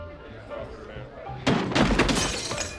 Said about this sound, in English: Here's a scene from the pilot of Studio 60. Perry is at an award ceremony, seated at a table. He falls off his chair.